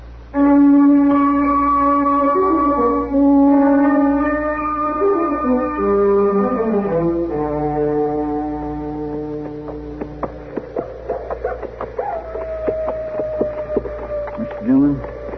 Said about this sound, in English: The coyote singing? That sounds like a coyote, Chester.